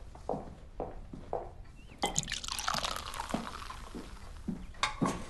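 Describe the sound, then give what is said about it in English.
A few soft drips and taps, then a drink is poured into a glass with a steady splashing gurgle for about a second, followed by light clinks. “You have to pour another one for your property prostitute.”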